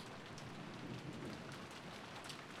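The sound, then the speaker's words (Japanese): A sudden rain pours down steadily on a hard surface, a dense, continuous hiss with scattered sharper drops, fairly loud, with no voices. “お兄ちゃんもびしょびしょ。まったく、急な雨とか本当嫌になっちゃいますよね。”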